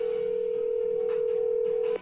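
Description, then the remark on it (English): A steady, continuous telephone dial tone, heard while calling a guest on the phone, hums at an even pitch for about two seconds, then cuts off abruptly, with faint background noise and no talking. “Let's get him on the phone and see what he's talking about today.”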